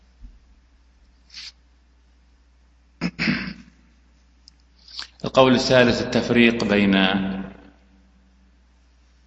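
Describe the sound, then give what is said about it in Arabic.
A single sharp sneeze bursts out, followed after a short pause by a man beginning to speak. “رحمك الله”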